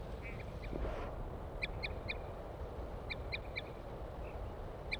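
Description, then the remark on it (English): A female wild bird gives short, hollow toot calls, two quick bursts of about three notes each, clear above a steady low rumble of background noise, with no talking. “Here comes the female, giving toots.”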